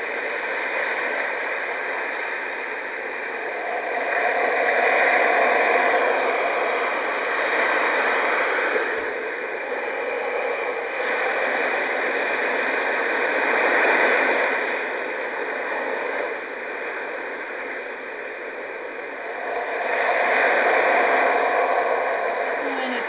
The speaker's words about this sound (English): And now let's go on to the ocean surf.